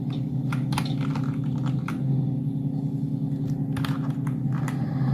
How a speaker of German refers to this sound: Spielst du über Tastatur und deine Tasten sind so laut oder sortierst du gerade nebenbei Erdnüsse in einer Metallschale? Das klappert ja wie die Mühle am rauschenden Bach hier.